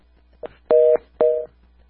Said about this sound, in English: We've got a phone problem here. We've got another call coming in, and trying to pick it up.